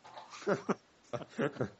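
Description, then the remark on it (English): A dog whimpers in a handful of short, whiny bursts that come in two small clusters, fairly quiet, with brief pauses between them. “You guys hear my dog there?”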